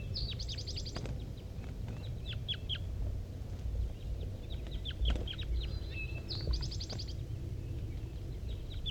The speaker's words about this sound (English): These are, no, don't stop. These are wild birds calling. There's a wild bird sitting in the top of the dead pine here. Wild bird. Wild bird in 5-3. Mostly wild bird here.